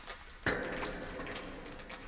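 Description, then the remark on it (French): A continuous metallic creaking and grinding starts abruptly and keeps going steadily, a harsh scraping texture with a faint squealing tone running through it, and no voices. “Écoutez, ce grincement continue.”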